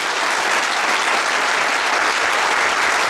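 A crowd applauds a guest at the end of a discussion, dense overlapping claps forming a loud, even wash of sound that holds without pause from start to finish, with no voices over it.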